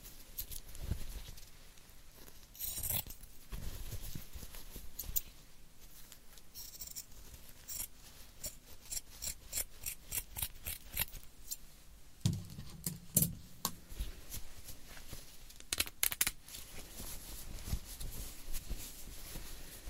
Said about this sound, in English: There's my old scissors. Don't worry, I know how to scissors. Okay, I'm gonna make cut right here.